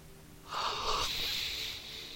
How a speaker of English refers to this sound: I had to say that while yawning, and it was very stressful, but I managed to get a little American in it.